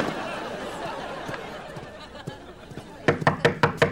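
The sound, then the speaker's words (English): A quick series of five firm knocks on a door near the end, evenly spaced and fairly loud, following a stretch of low background murmur and faint scattered taps. “I think it's someone knocking on the door.”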